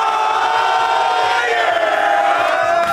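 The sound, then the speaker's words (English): A group of Patriots players cheers and hollers together in the visitors' locker room at Soldier Field, Chicago, after their 19-3 victory over the Bears: a loud, steady roar of overlapping shouts and whoops with no pauses. “That is the locker room footage, visitors' locker room footage from Soldier Field today.”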